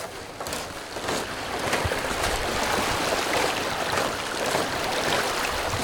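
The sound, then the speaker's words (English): Steady rushing of the shallow Sirkou River near Haines in winter, loud, with occasional brief splashes suggesting someone wading across it at a ripple. No voices are heard. “Through some water, Haines resident and Assemblyman Tom Morfitt advises on the best place to cross.”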